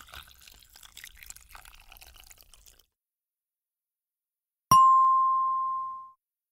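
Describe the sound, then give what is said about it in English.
Water pours into a pot for a few seconds with a soft, splashy trickle, then after a brief pause a single bright ding rings out and fades. “The glue is in the pot now. Pass me the water, please.”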